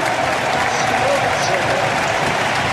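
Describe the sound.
A large crowd at Camp Nou stadium roars with sustained applause and overlapping chants of "Pedri" as Pedri comes on for Ferran Torres, a dense, steady wash of cheering that stays loud and unbroken throughout.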